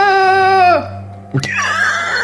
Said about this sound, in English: That's …. I recognize that scream.